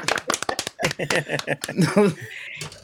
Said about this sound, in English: Good clap.